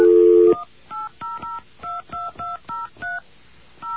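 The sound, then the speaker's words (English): A loud, steady telephone dial tone cuts off after half a second, followed by a rapid series of about nine short touch-tone dialing beeps in an uneven rhythm, each a paired electronic chirp, as a call is placed to AT&T. “We're going to get our dial tone.”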